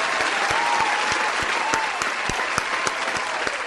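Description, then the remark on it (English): A canned applause track added in the background: steady, dense applause from a large crowd fills the whole stretch, a continuous wash of clapping with a few sharper individual claps standing out, fairly loud and without any talking. “Because you guys aren't impressed with our sitting ovation of three, we've added an applause track in the background.”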